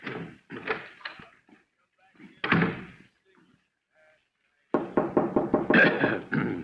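Knocking on a wooden door: a few scattered raps, a pause, then a louder, fast run of about ten knocks. No one speaks.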